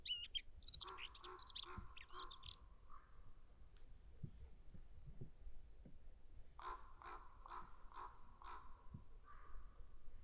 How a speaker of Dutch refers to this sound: Hey, er komen even een paar raven langs. Even luisteren.